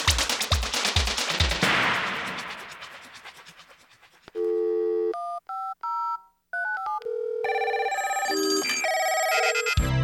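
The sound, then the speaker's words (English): A rapid burst of harsh, crackling noise gives way to a run of loud, real telephone tones: steady beeps, short keypad-style tone pairs with gaps, then a dense sequence of electronic ringing tones. “Phone tones are real sounds for application as phone sound effects and foleys.”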